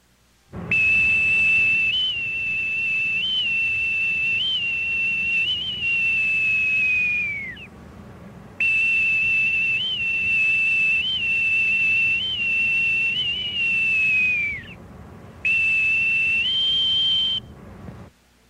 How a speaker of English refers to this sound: Now, when you hear a bosun's whistle call, or if you're the one piping the call, you know where it all started.